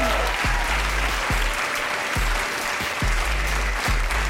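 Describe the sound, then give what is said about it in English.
A large crowd of hard hats cheers and claps, cheering on hippies in the streets, in a steady, dense roar that never lets up, with low thuds falling at a regular beat underneath, like stomping or drumming. “Here's what they're doing now. They're cheering them on.”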